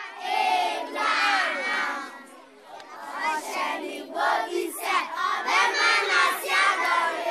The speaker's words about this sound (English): Children spill out of the classrooms at 2 o'clock. It's the end of lessons.